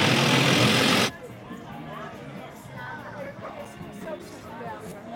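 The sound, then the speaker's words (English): An outdoor street crowd murmurs with overlapping chatter at the Richard Lane Autism Awareness Parade (Blue Skies Over Autism) in Galveston, Texas, as golf carts line up and streets are shut, after a brief burst of loud, rushing noise at the start; faint traffic rumble sits underneath. “It's an awareness parade for autism awareness.”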